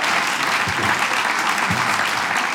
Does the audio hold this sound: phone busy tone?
no